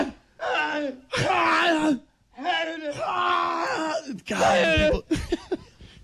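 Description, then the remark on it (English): A voice lets out a series of loud, exaggerated screams and grunting yells in bursts, mimicking the shrieks a tennis player makes on each serve. “Dude, the first serve, from the first serve, I'm just going to scream my lungs out.”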